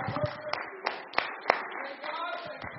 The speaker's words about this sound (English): You may be seated. Just don't sit down on God. Clap your hands one more time as you hit the seat.